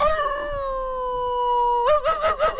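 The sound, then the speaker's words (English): A person imitates a werewolf, holding one long, steady howl that breaks into a wavering, warbling finish. The voice is fairly loud, with no other sounds. “How would you howl? Let me hear.”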